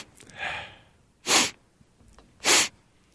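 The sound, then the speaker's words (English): A person imitates nasal sniffing: a softer, drawn-out sniff, then two sharp, loud sniffs about a second apart, with no talking. “The sniff.”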